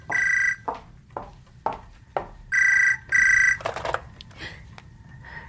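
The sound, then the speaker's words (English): A telephone rings in short, shrill electronic bursts, three rings spaced apart, with soft thuds and knocks in between as someone gets up off the floor to answer it. No one speaks. “I got up off the floor to answer the phone.”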